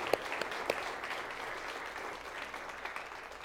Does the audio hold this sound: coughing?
no